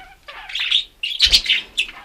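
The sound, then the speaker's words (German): Budgerigars and canaries in two large cages in a family's basement chirp busily, overlapping high trills and tweets in quick bursts, fairly loud, with a brief rustle or flutter partway through. “Wir sind da sozusagen im Vogelstall gelandet. Es hat zwei grosse Vogelkäfige hier. Mit Wellensittich und Kanarienvögeln.”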